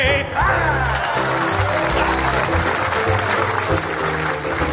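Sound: audience hissing and groaning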